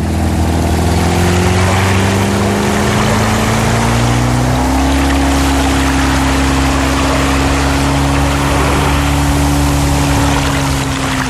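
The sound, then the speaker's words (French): A boat's motor drones steadily at speed, its pitch rising as it throttles up, with broad wash of water and wind noise throughout; no one speaks. “Avec le moteur, nous allons les distancer.”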